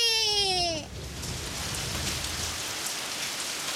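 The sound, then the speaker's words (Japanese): A brief shimmering tonal sweep gives way to a steady downpour of heavy rain conjured by magic inside a room, loud, a dense continuous hiss of drops that holds evenly to the end. “そうだ、雨が降ったら飛び起きるかな。”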